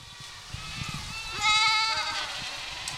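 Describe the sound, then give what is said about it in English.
Dozens of Spanish goats bleat in a field of waist-high vegetation in the Mark Twain National Forest, Missouri's Ozarks, one wavering, harmonic-rich call rising clearly around the middle, with fainter bleats and rustling field noise before and after. No one speaks. “Dozens of Spanish goats are roaming around a field in the Mark Twain National Forest.”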